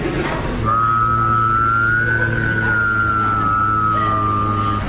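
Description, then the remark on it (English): A person whistles and hums at once: a low, steady hummed drone holds underneath while a clear whistle glides slowly up in pitch, then eases back down, lasting about four seconds. “I'm going to whistle and hum, and I'm going to keep the tone of the hum stable and increase the tone of the whistle.”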